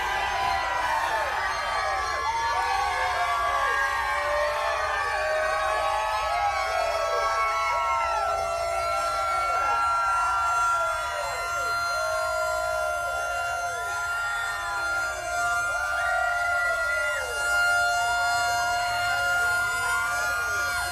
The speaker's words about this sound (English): We had Rutledge Wood in Dawsonville where they hooked up the siren to I think it was a Toyota Corolla. Chase said it, these fans are ready. Let's hit that siren!